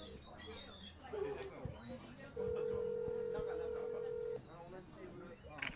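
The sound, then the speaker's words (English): A phone call's ringback tone sounds through the line while the caller waits for someone to pick up: one steady, two-second buzzing ring, fairly loud, over low background noise and faint voices, with a brief tonal blip just before. “Still ringing. Still ringing.”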